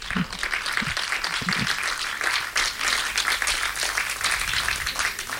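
Sustained audience applause, a dense crackle of many hands clapping steadily throughout, fairly loud and even, with a few faint voice murmurs underneath.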